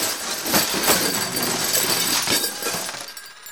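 A loud, sustained crash of closets tumbling down: a dense, bright clatter of bangs, rattles and glassy clinks running for several seconds before thinning out at the end, with no voices.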